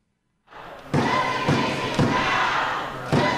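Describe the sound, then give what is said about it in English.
Protesters in a meeting chamber chant and shout together ('no resignations, no meeting'), broken by four heavy, booming thuds at a roughly steady beat, like wooden benches being pounded. “I think I could be wrong, but I think he was hitting like the wood benches, right?”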